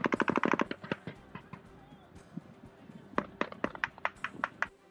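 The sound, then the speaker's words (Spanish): Gunfire at the airport in Kabul, Afghanistan: a rapid burst of automatic gunfire opens, followed by scattered single shots and then another run of sharp, evenly spaced shots, with faint muffled voices in the background. “En él se han vivido estos días muchas escenas de tensión con disparos y enfrentamientos.”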